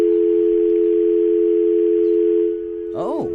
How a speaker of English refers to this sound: Oh, dial tone.